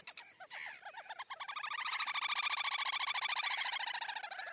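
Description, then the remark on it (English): A distant little grebe's trill by shallow water in England: a rapid, high-pitched run of whinnying notes that starts with a few broken calls, then accelerates into a loud, steady ripple lasting several seconds without pause. “One of the joys of sitting by almost any patch of shallow water in England is to hear the comforting trill of a distant little grebe.”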